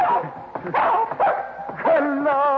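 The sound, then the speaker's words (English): A small female dog under a water pipe yips and barks in quick, excited bursts, her high voice rising and falling before trailing into a drawn-out, whining yelp at the end. “Do you hear? She's saying, happy hollow dog food.”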